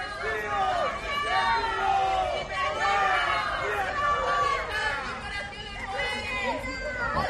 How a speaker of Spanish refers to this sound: Parece que el pueblo tiene su propio veredicto. Ha llegado a eso de las 10:45 de la mañana, entre abucheos como los que acabas de oír, entrando por la puerta principal del Tribunal Supremo.